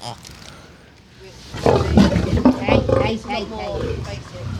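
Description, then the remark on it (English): An Asian lion growls about 1 meter away while being fed, starting after a quiet moment and continuing as a loud, rough, rumbling series of snarls that stay strong to the end. “Now we're just feeding a lion. I'm about 1 meter away. Lucifer's an Asian lion.”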